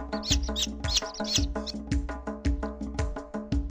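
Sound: hen clucking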